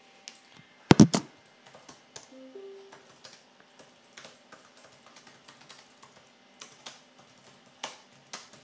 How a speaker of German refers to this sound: Ich weiß, Tasten zu hören, die machen es langweilig. Aber ich muss.